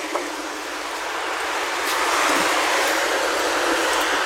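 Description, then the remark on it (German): Cars whoosh past a road crossing in a continuous hissing rush of traffic noise that swells a little louder midway through, with no voices. “Ihr hört es vielleicht, die Autos zischen hier vorbei.”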